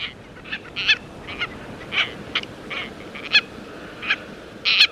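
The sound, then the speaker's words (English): Tropicbird (a seabird, genus Phaeton) calls ring out in a series of harsh, shrill squawks, about a dozen short bursts coming irregularly, some clustered in quick pairs, over a soft background hiss with no talking. “With the strong, direct flight of a falcon, a tropic bird can catch a flying fish on the wing or plunge like an arrow into the sea and, with its serrated bill, capture a squid.”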